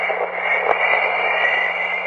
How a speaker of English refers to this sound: searching for hidden melodies in the hisses and whistles. He was particularly taken with Don Chorus, Garnett's name for the sounds gathered around Jupiter